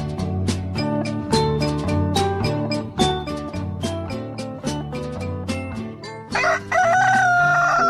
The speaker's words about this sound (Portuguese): Galo cantou, o relógio marcou 7h40, 7h40 é a hora certa pra você.